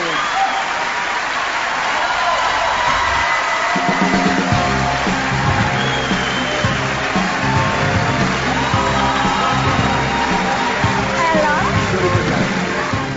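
The audience at the Ariston theatre breaks into sustained, dense applause as the winner of the 63rd Sanremo Festival is announced, joined partway through by rhythmic low music and scattered cheering, all loud and continuous for the whole stretch.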